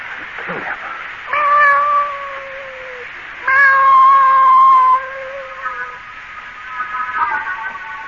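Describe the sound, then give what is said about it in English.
A cat lets out long, drawn-out yowls, two loud sustained wails, each lasting a couple of seconds, with fainter mewing trailing off toward the end, as a man brings the cat inside. “I'm bringing this cat in here.”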